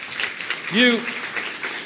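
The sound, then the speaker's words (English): An audience claps steadily for a couple of seconds, a dense wash of hand claps, with a short voiced whoop or exclamation rising briefly in the middle. “So mark these guys down. Give them a big hand clap.”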